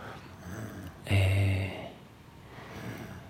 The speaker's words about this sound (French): C'est donc mon psy en train de dormir. Et depuis, à mon avis, 5 bonnes minutes. Mais je m'en étais pas aperçu. Je viens de m'en apercevoir seulement maintenant. J'avais entendu quand même cette respiration très profonde.